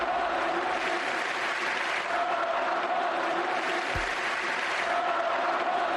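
A Barça football crowd at the Camp Nou roars and chants the name of 18-year-old player Ansu Fati: a loud continuous wall of voices with sung, repeated phrases that swell and fade in waves over a steady din.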